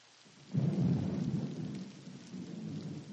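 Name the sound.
rain falling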